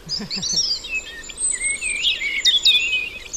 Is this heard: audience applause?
no